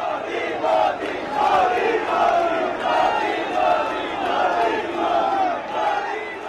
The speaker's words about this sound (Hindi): रविवार को उनके रोड शो में भारी भीड़ जुटी, छोटे बड़े बच्चे बूढ़े सभी सड़कों पर मोदी के समर्थन में नारे लगा रहे थे।